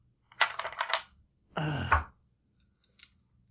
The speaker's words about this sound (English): I'm about to roll a big pile of dice.